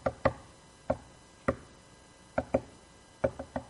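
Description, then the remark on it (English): Sharp, hollow taps on a submarine's hull in an uneven pattern, some single and some in quick pairs or triplets, Morse code being knocked out, heard by Navy divers approaching the sub. Moderately loud, with no voices. “And one of the divers recognized it as Morse code.”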